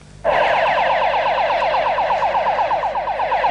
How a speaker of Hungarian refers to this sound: Balesethez sietnek a mentők a fővárosban.